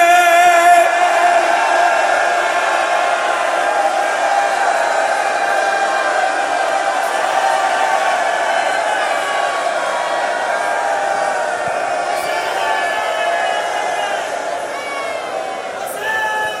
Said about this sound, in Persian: با همه ی وجودت فریاد بزن بگو حسین